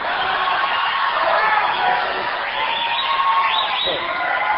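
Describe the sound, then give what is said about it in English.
An audience claps and cheers in a steady, dense wash of noise that holds at an even level throughout, with a few rising whoops breaking through near the end. “They have already forgotten what they're applauding.”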